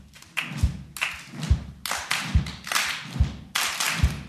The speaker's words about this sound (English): I guess we'll split. I'll take you guys. We're going to clap like this.